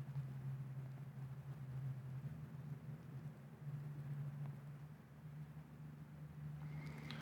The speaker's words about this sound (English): And the noise from that logging truck is even louder than the rush of the creek. The logging truck is miles away, and the creek may be 50 feet.